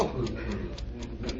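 A clock ticks steadily, six quick, even ticks in little more than a second, set against a thick, muffled background rumble that nearly buries them.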